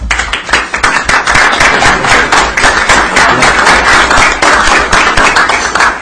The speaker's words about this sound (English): And members, I just think at the end of the day, we ought to give them a round of applause.